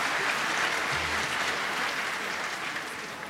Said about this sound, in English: It is worth a round of applause.